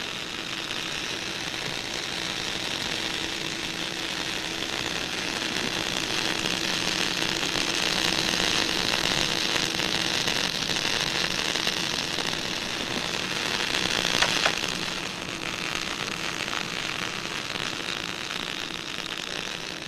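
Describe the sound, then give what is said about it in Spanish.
Steady, dense radio static hisses without a break, a broad wash of noise with a faint crackling texture that swells slightly near the end. No one speaks. “Según los científicos, es parte de la energía del Big Bang, ese primer estallido de vida que aún retumba en el espacio sideral.”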